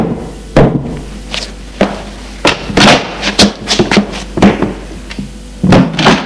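Someone knocks on a bedroom door: a series of loud, dull raps in uneven bursts, around a dozen hits with short pauses between groups, with no voices.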